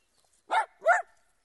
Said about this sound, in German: Hör auf zu bellen! Das ist aber ein schöner Hund, den Sie da haben. Der sieht so lieb aus.